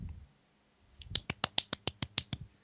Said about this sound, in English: That's a good clapping sound. either that or something quite alarming. You could put... oh, God. Just put in a normal clapping soundbite and that'll do.